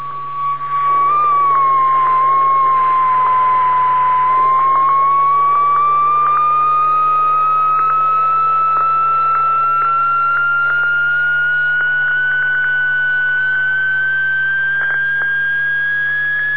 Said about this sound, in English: And by the way, when you sweep a beat frequency oscillator or any other kind of oscillator that's beating against the signal, you'll hear the tone change